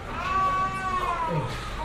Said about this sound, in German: In einem engen Aufnahmeraum werden neue Patienten registriert. Ein Baby schreit, als es vermessen und gewogen wird.